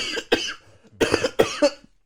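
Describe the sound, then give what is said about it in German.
A loud bout of coughing: two sharp coughs, a brief pause, then a rapid cluster of three or four more harsh, raspy coughs trailing off into a wheezy breath. “Jetzt muss ich husten.”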